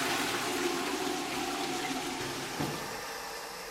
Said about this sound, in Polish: W tej kabinie nikt nie był, to jest czysto, ale wodę można spuścić. Niech będzie świeżo.